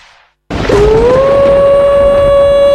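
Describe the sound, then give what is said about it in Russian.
In a Russian radio advertisement for the Barnaul city power grid, after a brief moment of faint noise, a loud, eerie howl, presented as Mrs. Hudson howling, starts low, slides upward and holds a long, steady wailing tone over a rough, noisy background. “Холмс, что это за ужасные звуки? Неужели это собака Баскервилли? Элементарно, Ватсон. Это воет наша миссис Хадсон, которая не платила за свет вовремя и теперь узнала.”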